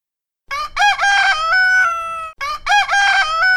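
A rooster crows loudly and shrilly, one long harmonic call followed right away by the start of a second crow. No one speaks.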